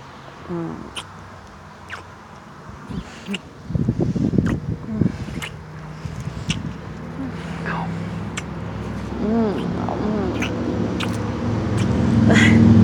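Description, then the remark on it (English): Low traffic rumble from cars passing on a road, swelling steadily louder toward the end, with brief high vocal cries and soft voices over it. “Are you worried about the cars going by?”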